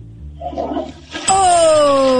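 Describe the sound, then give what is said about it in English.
A toilet flushes as a practice round of a flushing game: after a brief low murmur, a loud rush of water surges in abruptly and roars steadily, with a faint whistling whine sliding downward as the tank drains. “So after this flush, we're in.”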